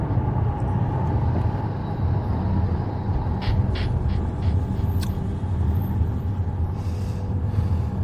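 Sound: inside a moving car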